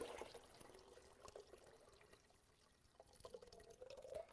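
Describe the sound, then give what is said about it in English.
Water is poured off the top of settled pure clay in a steady splashing stream, with trickles and drips falling into a container. No one speaks. “So he pours that water off.”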